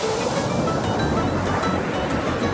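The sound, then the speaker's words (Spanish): Steady Mediterranean Sea surf rolls continuously onto the shore, a broad rushing wash of waves with no voices, the hiss of water filling the whole stretch. “Es como si el vino aquí viniera con banda sonora de olas.”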